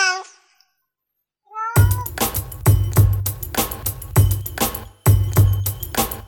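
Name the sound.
cat meowing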